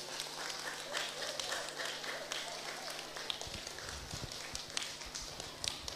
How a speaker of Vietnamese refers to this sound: Rồi bây giờ các con hãy cho một tràng vỗ tay thật là lớn để bắt đầu vào chương trình nào.